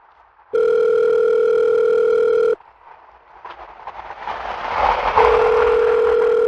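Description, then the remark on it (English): A loud, steady telephone dial tone from a recorded phone call sounds for about two seconds and cuts off. A rising, staticky line hiss follows, and then the tone returns near the end, with no one speaking. “Despite dying in their own explosion, the police were able to recover the phone call between the two terrorists in which they discussed their plans.”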